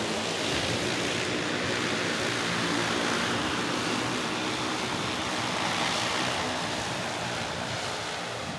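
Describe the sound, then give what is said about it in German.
An electric-powered flying craft lifting off about 100 metres away in a demonstration, rising to about 15 metres in the air and flying from point A to point B. It is heard as a steady, broad rushing whoosh that holds at an even level for the whole stretch, with no voices and no distinct engine pitch. “Ich bin hier circa 100 Meter von diesem Objekt entfernt, das gerade abhebt.”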